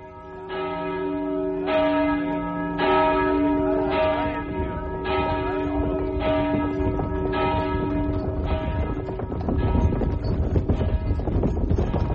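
Church bells ring out in a steady, repeating peal, each strike sustaining a rich tone, fairly loud, as horses strain into their harnesses, with faint hoof clops and wind rumble beneath.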